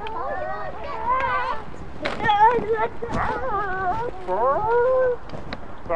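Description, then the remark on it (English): A person imitates a chicken with a string of loud, warbling vocal squawks, the pitch wobbling up and down in several bursts separated by short breaks. “Is that supposed to be a chicken?”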